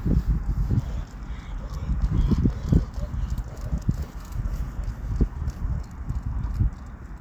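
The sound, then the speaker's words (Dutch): A woman's footsteps and the light pattering paws of her dogs pass by outdoors at a school's smoking area, an uneven run of soft taps and scuffs over a steady background murmur, with no clear talking. “Ik kwam net een vrouw met honden langs lopen, dus ik werd even stil.”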